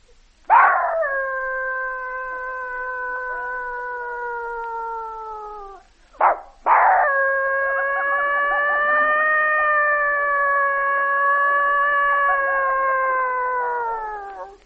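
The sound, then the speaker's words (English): Two long, drawn-out howls, a voice imitating a serenade of dogs howling, the first about five seconds and the second longer, sliding slowly downward. Loud, with a brief yelp between them. “Dog serenade.”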